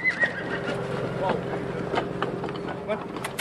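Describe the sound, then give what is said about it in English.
A white stallion named Gringo whinnies with a high, wavering call near the start, then gives a few shorter snorts and whickers over a steady low background hum, with faint indistinct voices; the horse circles a man standing in a round pen. “A white stallion named Gringo circles him.”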